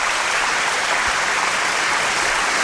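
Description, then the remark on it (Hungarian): A steady burst of applause: many hands clapping densely and continuously at an even, loud level, with no voices standing out. “Tapsolj!”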